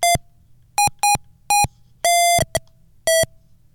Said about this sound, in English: Now try to push the button. Oh, my goodness. We got beeps.